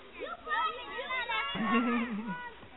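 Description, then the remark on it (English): Children playing outside on a sunny day, their high voices overlapping in lively chatter and shouts, with one louder, drawn-out cheer rising about halfway through before the babble continues. “They must be playing outside, getting ready for summer. And it sounds like they're having a great time, too.”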